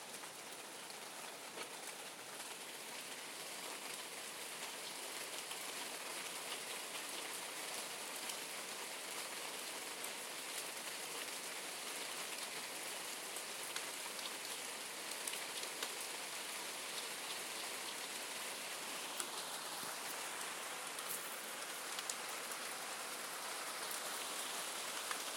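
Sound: rain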